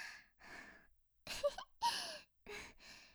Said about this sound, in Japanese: 息遣いもどんどん荒くなってきましたね。